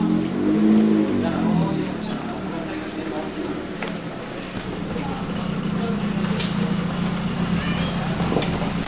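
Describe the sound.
A car engine rumbles and drones steadily as the vehicle moves past, with faint outdoor background noise and some voices.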